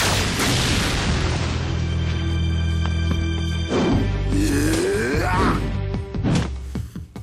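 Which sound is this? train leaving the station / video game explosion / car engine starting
video game explosion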